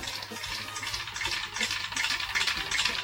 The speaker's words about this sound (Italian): Per esempio qui ci sono cinque galline, cioè si può fare musica con cinque galline. Sì, queste sono cinque galline svizzere. Sì, okay, ecco perché. Quindi mangiano in modo molto particolare e fanno questo suono.